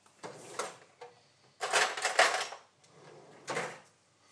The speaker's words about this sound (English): I bet you realise that was the drawer being opened.